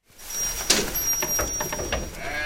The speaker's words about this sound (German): Auf dem Dach Portugals in der Serra da Estrela steht ein Stall. Für die Region typische Bordaleira-Schafe zupfen Heu aus einer Krippe, andere liegen im Stroh. Das sonderbar meditative Geräusch ihres Wiederkäuens füllt den Raum.